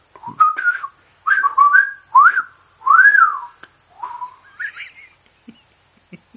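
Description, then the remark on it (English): A person whistles a series of warbling calls imitating birds while laughing: short sliding phrases with rising and falling pitch, fairly loud, with brief pauses between them. “It's really hard to whistle when you're laughing as well.”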